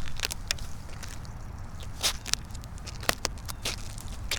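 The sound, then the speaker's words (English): Footsteps crunching on thin ice over Turtle Bay at an uneven pace, each step a sharp, gritty crackle over a low background rumble, with no voices. “crack, crunch, crunch. I'm looking down into Turtle Bay. My God, can you hear that?”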